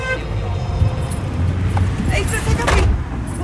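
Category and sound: vehicle, car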